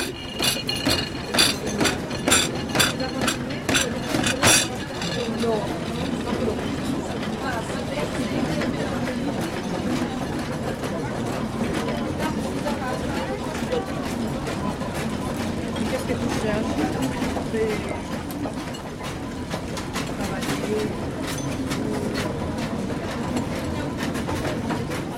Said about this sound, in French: Le plus étrange, c'est que j'avais même organisé les plateaux de la cafétéria de telle manière à ce qu'ils fassent une sonorité qui vous amuse et vous intéresse. Écoutez.